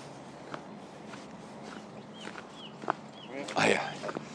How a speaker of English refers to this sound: I'll record the old business of getting cold, getting out of the car and feeling that chill. Not really chill in the bones, but let's try walking across the frost.